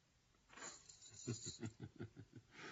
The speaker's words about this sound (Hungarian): eldobta a kulcsokat. Mutatni akarta, hogy nem háziasszonyoskodik itt tovább.